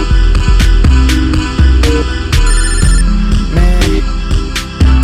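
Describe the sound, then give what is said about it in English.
A loud, musical phone ringtone plays a repeating melody with punchy, beat-like accents, continuing steadily for several seconds with no one speaking. “I shouldn't answer this phone, yo.”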